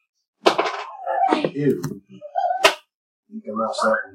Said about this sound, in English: The weapon impact gives you a variety of different ones, but I finally found one that actually sounded like the arrow hitting the dragon.